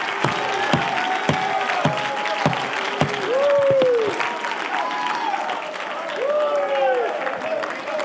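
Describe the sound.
An audience claps steadily in a dense roar, sharp individual claps cutting through, while voices shout and whoop over the noise, with rising cries standing out midway and near the end.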